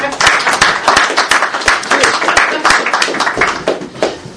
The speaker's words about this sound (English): Yeah. Those applause should be kept for Anita. That's what they're for.